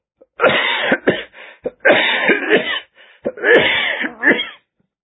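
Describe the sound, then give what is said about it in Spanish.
A loud coughing fit after choking: several harsh, raspy bursts in quick clusters with brief gasping pauses between them, lasting a few seconds with no talking. “Discúlpame, no podía parar mi tos.”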